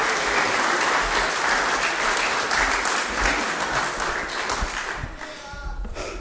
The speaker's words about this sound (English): So why not give them an applause and welcome them